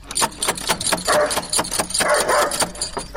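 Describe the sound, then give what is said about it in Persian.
A dog barks repeatedly in quick, agitated bursts, loud, with a few longer growly yelps mixed in and no pauses between them. “اون چی یک سگ خطرناکی داره ای.”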